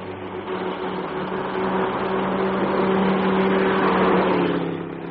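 A large German car's engine drones steadily on a lonely stretch of road, its hum swelling louder as it comes up from behind and passes alongside, then easing off slightly at the end, with no voices.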